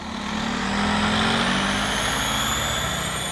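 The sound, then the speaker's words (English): A large bus engine rumbles and rises steadily as the 3 o'clock bus pulls away from a stop on Race Street between 8th and 9th Streets in Philadelphia, with a rising whine and broad road noise, fairly loud, no voices. “A few minutes later, the bus pulls away.”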